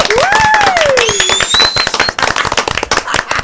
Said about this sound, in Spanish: Bueno, esto hay que entrar con aplausos.